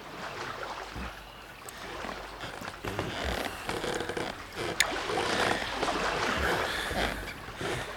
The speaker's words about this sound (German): hatte sich ein einfaches Kanu gebaut. Zusammen mit Neb paddelte er damit an der Küste entlang.